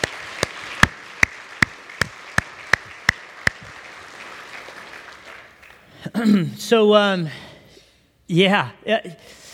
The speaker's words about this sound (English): Can we give him a round of applause today for a life well lived?